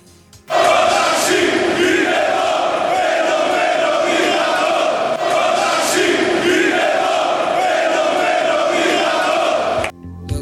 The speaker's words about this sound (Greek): Για να ακούσουμε καταρχήν συνθήματα από τη χθεσινή του διαδήλωση στο αεροδρόμιο